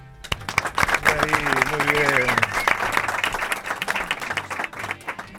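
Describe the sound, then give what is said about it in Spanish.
An audience at a university event with students of the Asociación Intégrate and of the Asunción bursts into sustained, loud applause, a dense patter of many hands clapping for several seconds, with a few voices cheering over it early on before the clapping gradually thins. “¿Un aplauso?”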